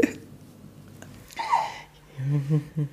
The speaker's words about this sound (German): Die hat richtig laut Schluck auf. Hörst du sie? Ja, ich höre sie natürlich, höre ich sie.